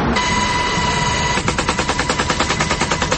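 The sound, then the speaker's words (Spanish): M60 machine gun fire by army soldiers from a Black Hawk helicopter in Argelia, Cauca, during an attempt to rescue a wounded soldier from a minefield: a steady loud roar with a faint whine, then a rapid, even stream of sharp shots rattling out about ten per second. “El sonido es de las ametralladoras M60 que accionan militares del ejército desde un helicóptero Black Hawk en Argelia, Cauca.”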